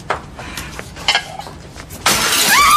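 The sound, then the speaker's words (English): Plates smash: a few sharp, scattered clinks and knocks, then a loud crash of breaking crockery that rings on with high, glassy shards rattling to the end. “Oh, my plates! These are not your plates!”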